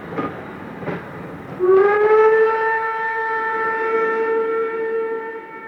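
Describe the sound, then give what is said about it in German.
A loud, sustained train whistle blows steadily for several seconds, preceded by a couple of short clanks of railway cars starting to move. “Na, endlich geht die Reise los. Benjamin kriegt immer Riesenhunger beim Eisenbahnfahren.”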